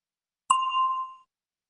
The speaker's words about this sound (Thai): A question for you. คำถามสำหรับทานเชิญรอฟังเสียงกระดิ่งก่อนและจึงตอบ